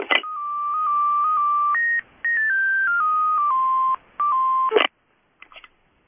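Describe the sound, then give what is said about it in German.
Electronic telephone tones play a stepped melody of pure beeping pitches in three close phrases, clear and fairly loud with no talking, ending in a brief burst and faint clicks. “Es muss doch mein Telefon klingeln.”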